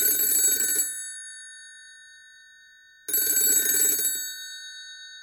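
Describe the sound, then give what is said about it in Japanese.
A telephone rings before a phone interview, in two long bursts, each about a second long and separated by a pause of roughly two seconds. The trilling ring is clear, with no voices. “二戸の偉人を取り上げているということでシンパシーを感じ、まずはふるさとを映像化する会の久保田さんにお電話でお話を聞きました。”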